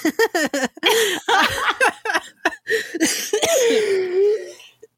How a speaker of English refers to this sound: Oh my god, I'm coughing. I'm sorry, guys.